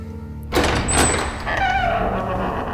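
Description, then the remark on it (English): A heavy cellar door to a glass cell slides open with a sudden rush, a loud, steady mechanical hiss and rumble that carries on for a couple of seconds, with no voices. “Open the damn door.”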